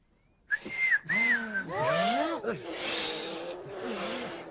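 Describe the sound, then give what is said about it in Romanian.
A person whistles a brief gliding tune for about a second while teaching others how to whistle, followed by voiced, speech-like sounds that continue at a steady, moderate level. “Bine, vă învăț eu să fluierați.”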